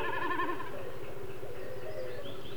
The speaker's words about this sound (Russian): Это высоко в голубом небе такует бекас. Вот он пикирует, слышно, как вибрирует перья хвоста.